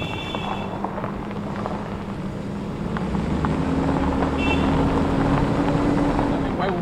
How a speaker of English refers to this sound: So bumpy, and we're being thrown back and forth across it and across the car.